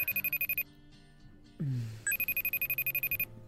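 A phone rings with an incoming call: rapid, evenly pulsed electronic trills, a brief pause with a short swooping tone in between, then the fast repeating ring resumes, clear.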